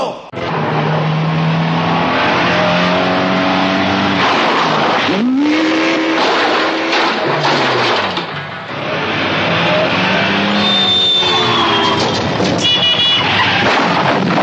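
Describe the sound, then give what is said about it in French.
A racing car roars, its engine revving and shifting pitch as the tires screech and skid across the pavement in a loud, continuous burst, losing grip made worse by tires that are too narrow. “Perte d'adhérence aggravée par des pneus trop étroits.”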